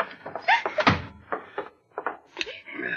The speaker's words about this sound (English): All right, get the door. Yeah.